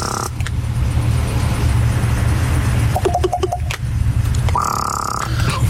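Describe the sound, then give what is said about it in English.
A pair of ravens that sit outside a house every morning make odd croaking, beatbox-like vocalizations, first a quick run of short, rhythmic notes, then a longer, harsh, buzzy call, all over a steady low rumble with no talking. “Someone who has a pair of ravens who sit outside their house every morning wanting breakfast”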